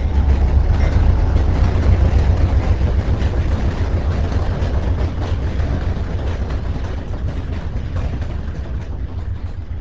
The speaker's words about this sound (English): The trains come through the center of Parkesburg, some fast freights, and the Amtrak passenger trains.